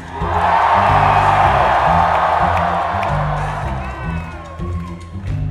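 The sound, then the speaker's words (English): A large audience screams and cheers at a performer's call, in a loud, sustained roar over a steady thumping bass line, easing off slightly in the last couple of seconds. “y'all feeling good? Let me hear y'all scream.”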